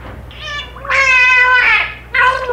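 A male dolphin mimics a human name through its blowhole: three nasal, harmonic bursts, a short one, a long wavering middle sound, then a brief closing note, faintly meow-like and fairly loud.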